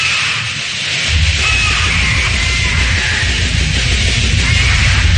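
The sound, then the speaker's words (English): A 19-year-old Congo African grey parrot, lead singer of a death metal band, screeching death metal vocals over loud, dense, distorted heavy music, with a pounding low-end rhythm kicking in after about a second and a harsh, noisy wall of sound throughout. “their lead singer is a 19-year-old Congo African gray parrot.”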